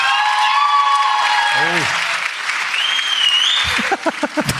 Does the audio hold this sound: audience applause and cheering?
yes